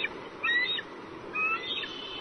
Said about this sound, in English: And the sounds of eagles, of course, that's in the nest, chatting with each other.